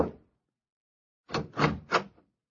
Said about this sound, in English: I knocked on the apartment door.